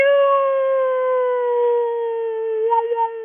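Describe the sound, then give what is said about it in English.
A siren wails in one long, steady, loud tone that sags slightly in pitch and wavers near the end, with no voices. “So say you hear a siren, just sing along with it.”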